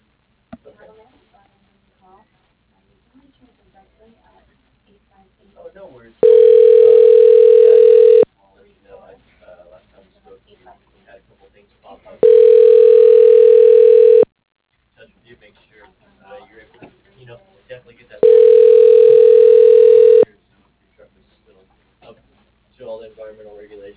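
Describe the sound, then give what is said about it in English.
A telephone rings three times in a steady pattern as a call is being transferred, each ring a loud two-second tone separated by pauses, with faint speech murmuring in the background between rings. “Hold on a second, let me transfer you to him.”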